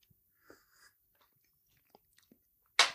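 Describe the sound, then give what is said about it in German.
Someone chews a bite of cake: soft, sporadic wet clicks and smacks over near silence, ending in an abrupt, louder burst of breathy noise. “Ah, so ein leckerer Kuchen.”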